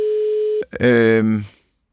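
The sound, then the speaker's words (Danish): A steady, single-pitched ringing tone of an outgoing telephone call sounds for just over half a second, then cuts off abruptly and a voice speaks briefly before silence; the person being called does not answer. “Det var ringetonen.”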